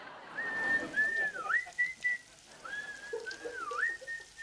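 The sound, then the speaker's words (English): Two men in a restroom, one at the urinal and one by the basin, whistle a simple tune together, clear, in two short melodic phrases with a brief pause between them, over faint room noise. No one speaks. “…, who's by the basin, joins in.”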